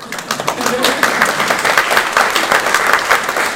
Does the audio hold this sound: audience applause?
yes